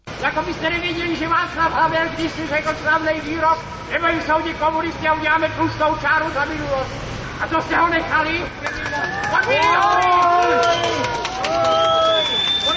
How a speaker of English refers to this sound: An angry crowd demonstrating last year over Mr. Gross's appointment of Pavel Pšibil as head of the office of the government.